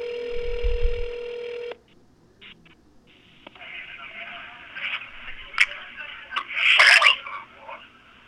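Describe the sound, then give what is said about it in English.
A steady telephone tone cuts off, followed by thin phone-line hiss with a few short dialing beeps and clicks, then a louder burst of tone near the end. “I waited a week, and I decided to follow up. But this time, someone else picked up the phone.”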